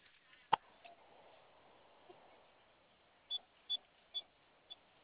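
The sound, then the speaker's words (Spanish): An alarm panel keypad gives four short, high-pitched beeps in quick, fairly even succession, preceded by a faint click, as keys are pressed: the pound key three times, then asterisk and the number 1. The sound is quiet and thin, like over a phone line. “De acuerdo, vamos a su panel de alarmas. Presione tecla de gato 3 veces, asterisco y el número 1, por favor.”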